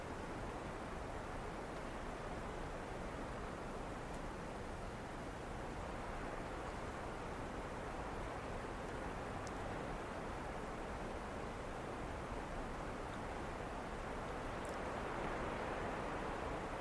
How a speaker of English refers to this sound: And as you listen to the rain, you listen to the sound, sensing the awareness that's here, that tender, open space of awareness that's listening and feeling the moment.